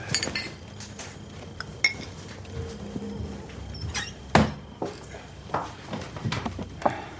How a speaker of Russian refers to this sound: Нора ставит на стол 2 стакана.